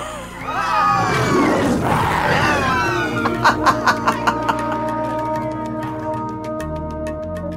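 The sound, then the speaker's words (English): Several people let out loud, drawn-out roars, imitating lions in a 'lion laughter' exercise of laughter yoga, with rising and falling growls. Then a quick run of sharp, rhythmic claps or taps follows over a steady low hum. “you and me roaring like lions. And I can still do it.”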